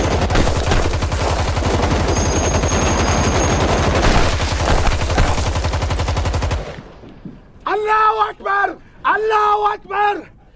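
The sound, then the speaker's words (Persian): Loud, sustained bursts of rapid gunfire as a man shoots at another man running over a hill, rattling continuously for about six seconds, then stopping abruptly as a man shouts loudly several times. “بهش شلیک میکنه.”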